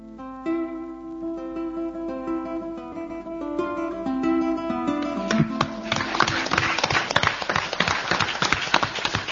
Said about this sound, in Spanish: Para él iban los aplausos de este trabajo